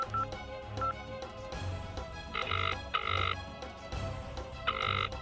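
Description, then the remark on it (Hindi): A telephone rings in short, bright electronic bursts that come in pairs with brief pauses, loud over a steady background music bed. No one speaks. “अभी घर से निकले फिर फोन बजना शुरू।”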